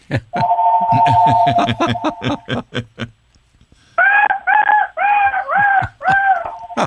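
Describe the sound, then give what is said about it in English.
A big old wild turkey gobbles, a loud burst of rapid rattling pulses over a steady tone, then a pause and a run of warbling, throaty notes in quick succession. “A giant old damn turkey under it.”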